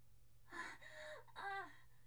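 A woman's sudden, sharp gasp, followed quickly by a second breathy, voiced intake of breath. No talking, just a faint steady hum underneath.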